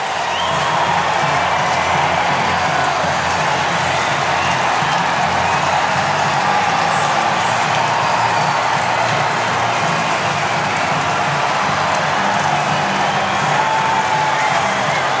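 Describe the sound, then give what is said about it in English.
A baseball stadium crowd roars and cheers after Daniel Vogelbach hits a bases-loaded home run into the right-center bullpen to win the game, one loud, unbroken wall of noise for about fifteen seconds, with whoops and shouts blending into the dense, steady din. “Listen to this crowd.”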